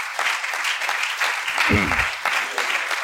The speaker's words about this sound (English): We ought to give the Lord a hand clap of praise for that.